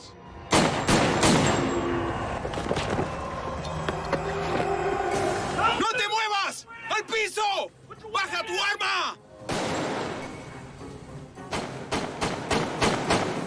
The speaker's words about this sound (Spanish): Parecía cámara lenta. Escuché la grabación de la cinta y los disparos fueron sucesivos. Pero en ese momento parecía que había tal vez 1 o 2 segundos entre los disparos reales.